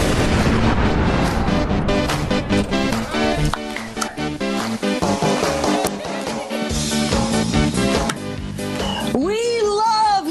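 An upbeat rock song with heavy, pounding drums hitting in a steady driving rhythm, played loud and full, with a bright wavering melodic line rising near the end; played on the radio as a victory song after the Green Bay Packers beat the Detroit Lions 35-17.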